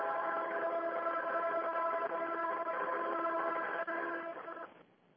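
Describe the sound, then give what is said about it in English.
A big train passes by behind a caller, a loud, steady droning roar with a whining tonal hum that holds for several seconds before quickly dropping away, heard over a thin phone line. “It's just a big choo-choo train just went by.”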